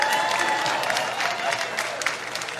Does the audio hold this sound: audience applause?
yes